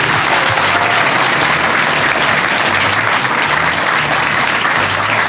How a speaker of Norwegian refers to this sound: Du sa det blir sikkert applaudert. Blir det? Det ble det. Herlig. En stor applaus igjen til våre to gjester,